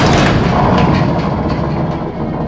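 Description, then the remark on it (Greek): A loud, continuous rumbling crash as one of Percy's derailed coal wagons crashes into the coal lorry, with dense low-end roar and scattered metallic clatter and thuds running through the whole stretch before easing slightly at the end. No voices. “Πέρσι σταμάτησε, αλλά ένα από τα βαγόνια του έπεσε πάνω στο φορτηγό με τα κάρβουνα.”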